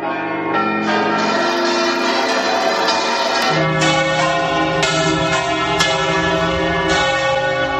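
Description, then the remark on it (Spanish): Church bells ring out in a dense, overlapping peal, repeated strikes sounding steadily and loudly with rich lingering overtones, no voices present. Rung on 21 April 2018, when over 1,000 bell towers across Europe rang for UNESCO recognition of the bell-ringing tradition. “Oye, el 21 de abril de 2018, más de 1,000 campanarios de toda Europa sonaron para que esta tradición de las campanas fuera reconocida por la UNESCO.”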